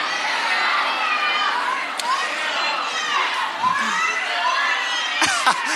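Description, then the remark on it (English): Loud, high-pitched excited screaming from a girl in an audience, sustained for several seconds amid a dense wash of crowd cheering and shrieks, with a few sharper yells near the end. “This girl likes Dale. She's screaming.”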